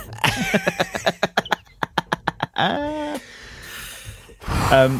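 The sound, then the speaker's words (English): A voice imitates a dying deer: a quick run of sharp, rhythmic huffing breaths, then a strained bleating groan, a long raspy exhale, and a final moaning cry, loud. “It's the huffing dying deer.”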